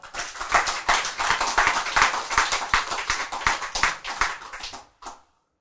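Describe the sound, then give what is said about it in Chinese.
A burst of applause from many hands, dense and steady for about five seconds at a fairly loud level, then breaking off abruptly with one last short flurry. “气坏了，把它撞扁，拍手。”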